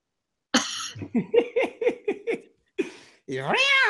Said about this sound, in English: That was the cat.